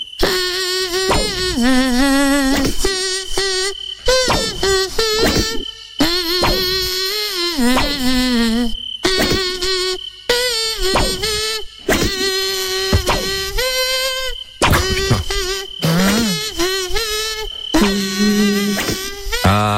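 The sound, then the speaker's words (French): A voice imitates a mosquito, buzzing a song melody in a high, nasal whine for a song-guessing quiz game, loud, in a series of sung phrases separated by brief pauses. “Nous, c'est Moustique qui chante le cadeau.”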